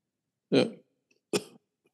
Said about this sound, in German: Gut, während du hustest,